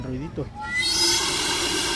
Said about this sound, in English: The steam also creates the distinctive whistle sound when it escapes from the metal barrel through a special tube. When the water falls on the hot part of the tube, it's expelled at fairly high pressure, which is what produces the little noise.